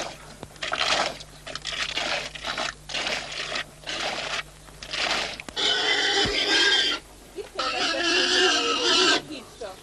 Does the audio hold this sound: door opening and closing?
no